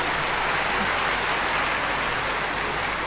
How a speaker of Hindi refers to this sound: जोर से ताली बजाएंगे।